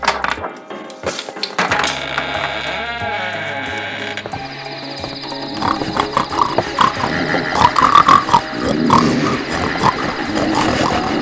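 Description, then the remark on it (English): Busy snorting and grunting of people on all fours imitating pigs, with squeals and bleating calls mixed in. The rough snorts repeat steadily and grow louder and denser toward the end. “why can't we just get down on all fours, start snorting, and blend in?”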